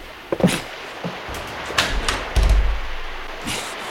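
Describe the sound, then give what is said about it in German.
Someone tugs and jiggles a locked door on a fishing cutter converted into a pirate ship for filming, producing a series of short wooden thumps and metallic clacks in irregular bursts, with no talking. “Da ist eine Tür. Na, die muss zur Kombüse führen.”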